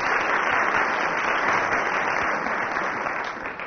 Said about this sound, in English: The audience applauded because I waved at them.